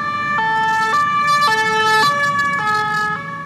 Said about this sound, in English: Sirens filled the streets near Paris's famed Opera Garnier after a knife-wielding suspect killed one person and injured four others. He was then killed by police Saturday night.